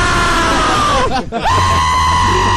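A man lets out a loud, close fright scream: a long strained yell that drops in pitch, breaks off for a split second, then resumes as a sustained holler.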